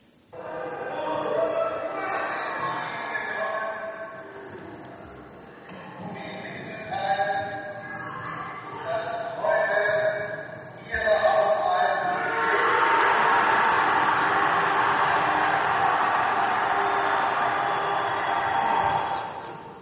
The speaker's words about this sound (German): So hört sich ein Jubelruf nach Freiheit an, oder?